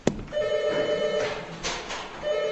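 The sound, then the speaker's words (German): An apartment doorbell rings with a click, then sustained, slightly dissonant electronic tones a tritone apart (three whole tones) that fade briefly and return, loud, with no one talking. “Den findet ihr hier in meiner Wohnungsklingel.”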